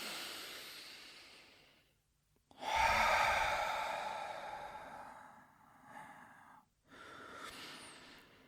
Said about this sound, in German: Und jetzt atmen wir einfach einmal tief ein und aus. Gerne auch laut, uns hört und sieht ja keiner. Das machen wir jetzt noch zweimal. Wenn wir ausatmen, atmen wir ganz aus, dass die ganze Luft aus dem Bauch rauskommt.